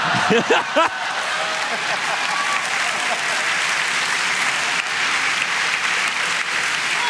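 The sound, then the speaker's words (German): Sustained applause from an audience for a female artist taking part live, a dense, even wash of many hands clapping that holds steady for several seconds, with a brief voiced cheer or call at the very start. “Und das ist ein Applaus.”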